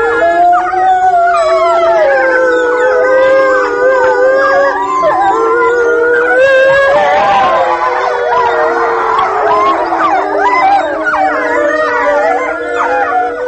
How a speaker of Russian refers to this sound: что если волков прервать во время воя, они бросаются друг на друга